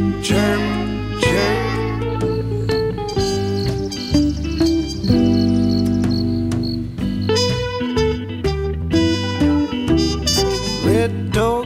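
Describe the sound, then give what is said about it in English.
A grasshopper chirps in quick, buzzy pulses, fairly loud, over a full bed of sustained musical tones with no one talking. “Hopper, little grasshopper, noisy as can be. I hear you, can you hear me?”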